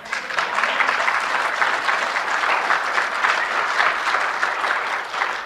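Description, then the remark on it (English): Sustained applause from a large audience, a dense steady wash of many hands clapping at once, fairly loud and continuous for several seconds with no voices standing out. “You clap, but you don't know what you're clapping for.”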